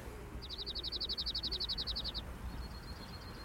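A cirl bunting, a colourful bird with a black and yellow striped mask, sings a fast, dry trill of about twenty identical high notes in under two seconds, clear over a low background rumble, followed by a faint thin note.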